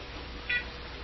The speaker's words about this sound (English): Oh, there's the phone.